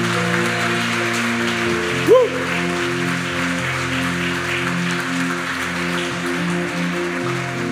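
An audience applauds steadily for several seconds as applause to God, a dense, even patter of many hands clapping over sustained low musical chords, with one brief voice cry rising out of it early on.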